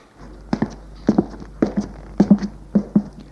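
footsteps climbing stairs

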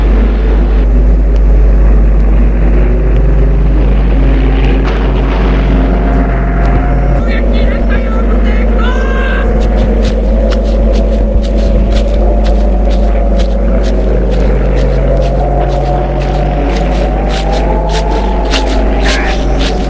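airplane passing overhead

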